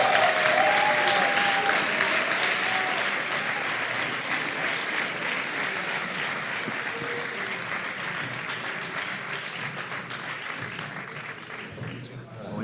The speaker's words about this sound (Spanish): Y el podcast ganador en la categoría de Ciencia y Cultura es Noviembre nocturno. Un aplauso.